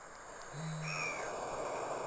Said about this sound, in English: the mythical bunyip is the actual bittern. Okay. So I'm going to play one for you.